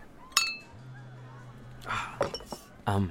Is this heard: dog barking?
no